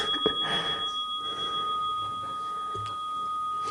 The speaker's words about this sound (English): The next time the bell rings, see if your focus is still on the Buddha gazing down on a world of people they are taking care of.